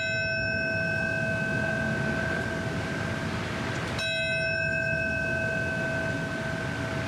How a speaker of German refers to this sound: Mit Glockenschlägen und Schweigeminuten wurde heute auch an die Momente erinnert, an denen die Türme des World Trade Centers einstürzten und viele Menschen mit in den Tod rissen.